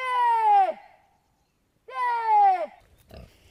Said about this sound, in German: Dann lässt sich die Herde doch noch blicken. Die Schweine wühlen im Halbschatten in einer Senke. Wegen ihrer grauschwarzen Hautfarbe sind sie erst auf den zweiten Blick zu erkennen. Neugierig kommen ein paar Tiere näher.